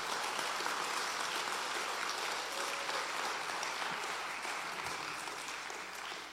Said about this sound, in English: we give her a really good applause, all right?